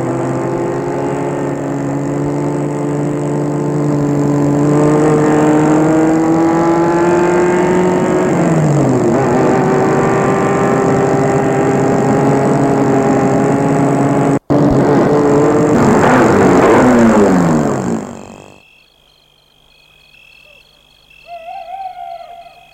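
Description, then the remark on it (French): A car engine drones steadily and loudly with a humming, tonal pitch that dips and shifts as it is driven to a villa near Versailles, then cuts off, leaving near silence with a faint sound at the end. “Gilbert le mène chez lui.”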